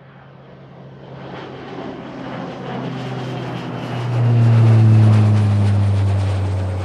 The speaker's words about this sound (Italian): L'Airbus 321 per Londra.